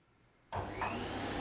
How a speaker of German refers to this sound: Auweih, ein Ei geht kaputt. Aber Lena holt den Staubsauger.